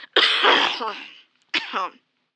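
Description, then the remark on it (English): Two harsh, rasping coughs: a long, drawn-out hack followed after a short pause by a shorter second one, loud and raspy with a strained, throaty edge. “Are you sick too? No. Why? You're coughing.”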